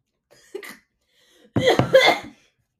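coughing

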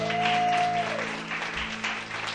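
round of applause

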